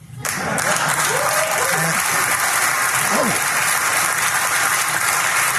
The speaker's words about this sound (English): I'm serious. That is a very far left audience still. And they're applauding him saying to LGBTQ, not everything's about you.